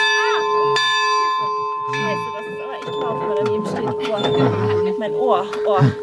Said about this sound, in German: Kann man da oben dann die Glocke läuten? Na, wenn ihr wollt, kennt die Glocke auch läuten. Ne? Doch erstmal gilt es, die wackelige letzte Treppe hochzukommen. Die Glocke ist durchaus laut.